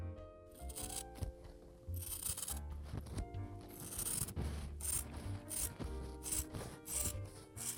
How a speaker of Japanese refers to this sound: わかる？布を切る音。